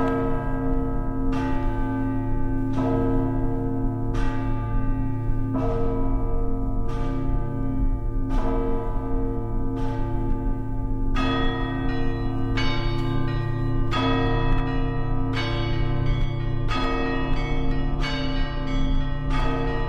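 Church bells of the Ivan the Great Bell Tower ring in a dense, continuous peal as heard by the bell ringer on the belfry's second tier, with a deep sustained hum beneath rapid, rhythmic strikes of smaller bells layered over it. No voices.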